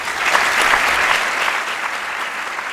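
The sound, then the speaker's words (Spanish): Steady applause from a large audience for the rector at the closing of the 2025-2026 academic year of Universidad Miguel Hernández de Elche, in the Salón de Actos of the rectorate and Social Council building; a dense rain of hand claps with no pauses, loud and even, fading slightly toward the end, no voices standing out. “Bueno, pues el rector recibe esos aplausos de todos los asistentes aquí en el Salón de Actos del edificio rectorado y Consejo Social.”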